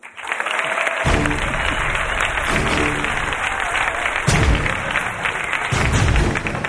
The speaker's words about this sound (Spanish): Un aplauso para Gloria Serra.